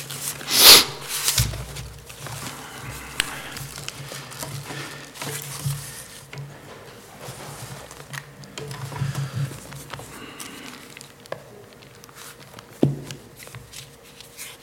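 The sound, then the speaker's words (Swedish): Soft, papery rustling of tissue being pulled out and handled, with a sharp crinkle near the start followed by intermittent quieter rustles and a brief crackle later on, no voices. “Jag tar fram papper, men det är inte för att jag gråter den här gången än så länge.”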